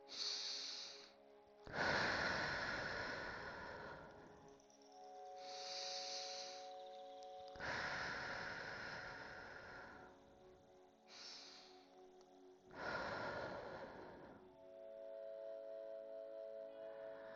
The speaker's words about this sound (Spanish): Inhala y exhala, tomando conciencia de tu respiración. 3 veces.